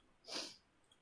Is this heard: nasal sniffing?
yes